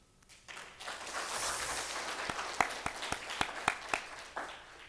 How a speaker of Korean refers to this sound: 잘 가라는 박수는 아니고요. 아쉽다는 박수입니다.